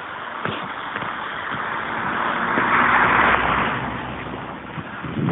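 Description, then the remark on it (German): A car drives slowly past outdoors onto a forest road, its engine and tyre rumble swelling to a broad peak midway before easing off again, with no one talking. “Fahrt jetzt ein Auto in die Forststraße, das muss es natürlich auch sein.”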